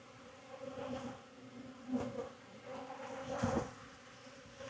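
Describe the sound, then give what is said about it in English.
A steady, dense hum of many honeybees buzzing around a beekeeper inspecting hive frames, swelling and fading as individual bees fly past, with no voices. “Another bee in my bonnet.”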